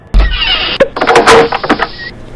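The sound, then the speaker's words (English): A young woman opens the door of a bar at closing time: a low thump, then about two seconds of rattling, scraping mechanical noise with a few sharp clicks, and no voices. “The woman, Alicia, takes in the scene for a moment and then opens the door.”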